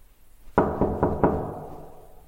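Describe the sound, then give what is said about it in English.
Four firm knocks on a neighbour's wooden apartment door, evenly spaced in quick succession and clear, each leaving a short resonant ring that fades into quiet. “Oh, and this is the sound of me leaving my apartment to go and knock on his door.”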